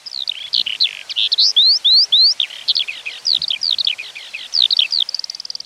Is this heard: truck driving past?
no